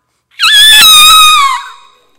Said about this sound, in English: But that's not the cry or the call of Hosea chapter 8. It would be taking that trumpet in comparison to that loud screeching sound of that bird.